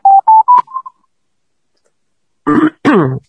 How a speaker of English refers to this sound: As you can hear, we have a very simple wave. It's called a sine wave. It is the purest sound we are able to make.